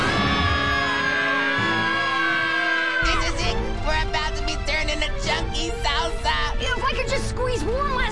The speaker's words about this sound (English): On second thought, let's just all scream. Ah!